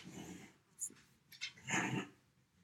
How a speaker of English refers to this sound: The dog was making some bizarre sounds in the background.